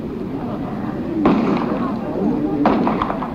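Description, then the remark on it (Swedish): Two sharp gunshots ring out about a second and a half apart, loud, over a steady rumble of crowd noise and indistinct voices, as a man hidden in a tree fires at Indian Prime Minister Rajiv Gandhi leaving a memorial ceremony. “Det var när Gandhi lämnade minneshögtiden som en man gömd i ett träd sköt 5 skott.”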